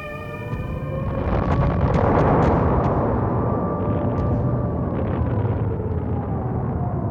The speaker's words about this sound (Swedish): Den 30 november 1939 bombar sovjetiska flygplan Helsingfors. Vinterkriget bryter ut.